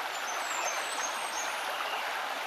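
flowing brook water

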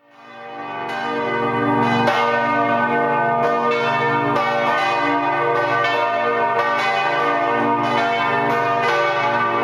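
church bells ringing

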